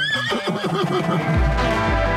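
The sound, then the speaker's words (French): A horse at the Trois-Rivières racetrack (hippodrome) whinnies loudly with a shaky, quavering pitch for about a second, then the sound gives way to a deep, rumbling low roar. No one speaks. “En direct de l'hippodrome de Trois-Rivières, vous écoutez les dimanches de course du 91.9 Sport.”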